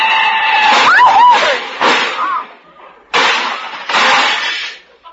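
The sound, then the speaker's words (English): A car crash involving a big black touring car: a squeal of brakes, then a run of loud crunching, clattering bursts of metal as a car's fenders are knocked off into the gutter, four heavy impacts separated by short gaps, with no speech. “My fenders, my shining fenders lying in the gutter.”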